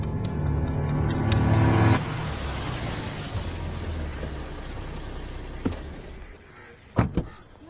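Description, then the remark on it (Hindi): A car engine revs loudly with a low, droning hum, then settles into steady road noise as people set off by car; near the end, a couple of sharp thuds of car doors being shut ring out. “चल गाड़ी चलो।”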